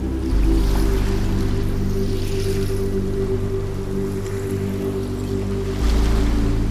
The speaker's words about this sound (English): I want you to fall even deeper into relaxation and tell yourself how good it feels, how worry and pain free it feels to listen to my voice, to hear the waves coming in and out.